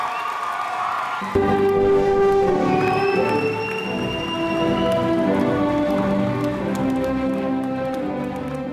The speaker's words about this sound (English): Please stand and applaud as the newest graduates of Tongue Point Job Corps Center as they proceed to meet the world.